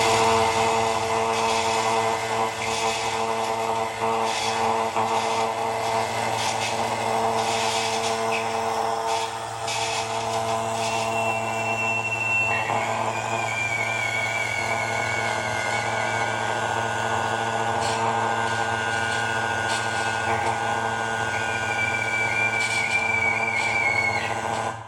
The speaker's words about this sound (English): So I set myself to recreate the circuit that Oleg Loshev made. And this is what I managed to do with, again, a mineral of galena this time that tries to oscillate, really tries. Then it does oscillate.